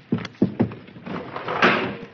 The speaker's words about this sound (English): Sounds like a Paris taxi cab.